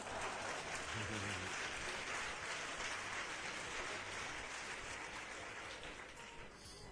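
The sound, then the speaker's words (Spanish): An audience applauds steadily, a dense, continuous crackle of many hands clapping that holds strong for several seconds and eases slightly at the very end, with no voices over it. “La doy aplaudido, ¿eh?”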